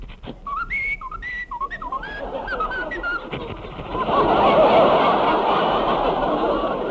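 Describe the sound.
A dog whistles a short, lilting melody, with clear, bright notes gliding up and down for a few seconds. It then gives way to a loud, rushing wash of audience noise.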